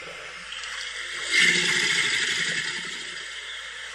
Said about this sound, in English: So it is a combination of the growl of the alligator and the vibration of the water.